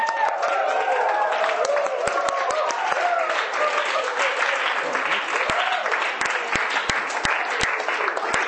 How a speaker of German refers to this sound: Das ist ein Vers, der gehört zusammen. Also erste Hälfte ist nochmal, ihr Völker alle klatscht in die Hände.